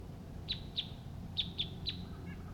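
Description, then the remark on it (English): Two male wild birds call from the trees: five sharp, high-pitched chirps, some in quick pairs, standing out over a steady low rumble with no talking. “Two male wild birds are calling at this time.”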